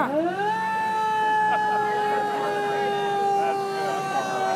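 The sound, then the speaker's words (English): An old U.S. Army military police car siren winds up quickly from a low growl to a loud, steady, high wail and holds it, with faint background clatter underneath. “The old military police car.”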